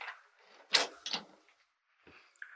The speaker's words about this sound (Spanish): Rolando se queda de pie ante la puerta que ha cerrado.